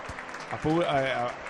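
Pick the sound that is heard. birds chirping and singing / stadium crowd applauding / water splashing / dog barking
stadium crowd applauding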